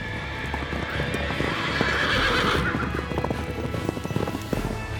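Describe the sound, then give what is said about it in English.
A horse whinnies loudly over a steady rhythm of hooves clip-clopping on hard ground, the clopping continuing throughout against a low background rumble, as ranch hands ride horses on a farm. “The cow is practically still mooing as it comes from our big man farms with big man ranch hands on big man horses.”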